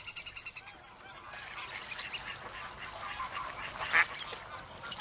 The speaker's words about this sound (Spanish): El pato real es el origen de casi todos los patos domésticos, probablemente el primero en ser domesticado por el hombre. Se adapta fácilmente a su entorno y se encuentra en cualquier zona climática europea.